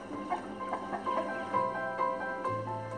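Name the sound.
broiler chickens clucking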